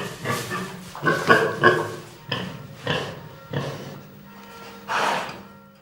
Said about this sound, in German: Das ist kein Zweifel ein Schwein. Was es mit dem Grunzen allerdings ausdrücken möchte, ist schwer zu sagen. Zumindest für Nichtschweine wie uns.